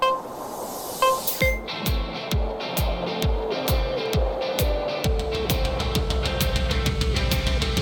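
A rock cover plays loudly, opening with a few brief tones before a steady, driving drum beat kicks in with dense guitar-like layers; no singing comes through yet.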